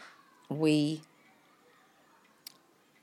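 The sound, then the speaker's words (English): A single loud meow from Pinky, a pet cat, lasting about half a second, its pitch sliding downward, followed by quiet and one faint click. “we moved in with a new one.”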